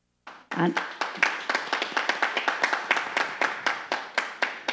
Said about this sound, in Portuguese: os nossos aplausos.